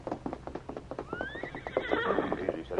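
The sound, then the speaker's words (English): A horse whinnies loudly with a rising, wavering neigh over a steady patter of hooves clip-clopping, the hoofbeats quick and continuous throughout; a rider mounts his horse at the hitch rack outside a cafe in a Lone Ranger radio drama. “the Lone Ranger and Tonto saw Russ wearing a patch of white on one ear, leave the cafe and mount his horse at the hitch rack.”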